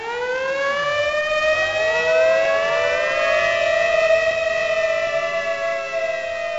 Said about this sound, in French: Les sirènes annoncèrent la présence d'un avion ennemi, qui, après avoir survolé la ville deux fois de suite, disparut.